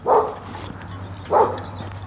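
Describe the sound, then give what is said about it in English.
A dog barks twice, two short, fairly loud woofs about a second apart, with a steady low hum underneath and no one talking. “Easy dog.”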